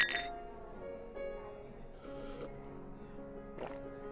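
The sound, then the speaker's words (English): Wine glasses clink together in a toast, a bright chime at the start that rings on softly, followed by a couple of quieter touches and faint shuffling. “A toast. To pleasant surprises, new experiences, and people you share them with. Cheers.”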